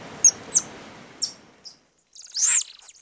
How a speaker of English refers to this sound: And we're going to talk about deforestation and what that's meant for the endangered golden lion tamarin. It's a tiny, beautiful, copper-colored monkey. And here's what it sounds like.